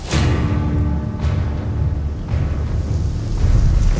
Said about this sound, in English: It's blowing so hard when it gusts, I gotta get down right against the ground or I'll get knocked over. Basically just got my butt kicked on top of a mountain.